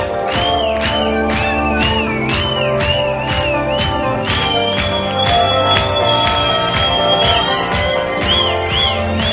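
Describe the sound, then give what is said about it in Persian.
A loud crowd cheers and screams hooray continuously, with steady rhythmic clapping or beats running underneath the whole time. “جیغه هورا.”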